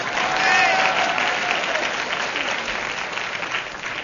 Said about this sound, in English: Enter blue bottle. Pauses for audience applause, never stopping.